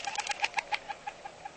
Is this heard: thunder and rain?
no